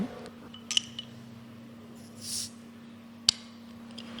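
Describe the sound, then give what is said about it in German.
Beer poured into a glass: a few light glassy clinks, a brief soft fizzing hiss, then one sharp clink, all faint against a steady low hum with no talking. “Dass ich unheimlich gut Bier einschenken kann.”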